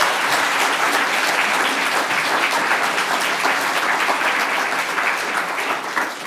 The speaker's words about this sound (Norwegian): Så nå kan dere gi alle tre en varm applaus.